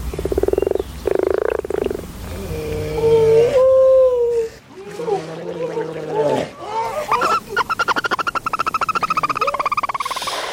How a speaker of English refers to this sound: Yeah, that'll be the common frog, the grey seal and the barn owl.